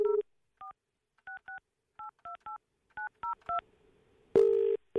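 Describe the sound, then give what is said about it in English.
A phone number is punched in live on air to call a colleague who is late for work. It sounds as a quick string of short touch-tone beeps, each a two-pitch tone, followed by a steady dial or ringing tone at the end. No one speaks. “Let's try to give him a call.”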